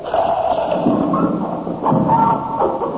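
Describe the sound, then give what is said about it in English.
A trapdoor mechanism, being tested with a bag of sand as its lever is pulled, gives a couple of dull thuds with some rattling over a steady, noisy rumble. No one speaks. “We'll go and test the trap again. There. Now, pull the lever.”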